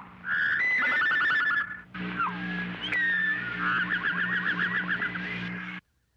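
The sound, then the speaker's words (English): A thrush's song phrase, then a towhee's song, both played upside down in pitch: clear whistled notes and trills in quick succession over a low, steady hum, with no talking. “Here is the statement of the thrush, followed immediately by the Towhee's theme, both similarly inverted.”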